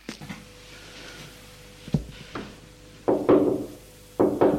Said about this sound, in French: Dans le hall, la bonne va frapper à une porte vitrée.